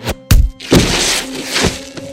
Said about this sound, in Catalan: En Robert Capa segueix de ben a prop un soldat republicà, turó cap avall. De sobte, se sent un tret i el milicià cau mort amb els braços ben oberts.